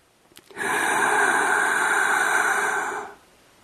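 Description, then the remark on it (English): A sudden, loud gasping intake of breath after holding the breath with nose and mouth closed, holding steady for over two seconds before cutting off into quiet. No one speaks. “Just try closing your nose and closing your mouth. See how long you go.”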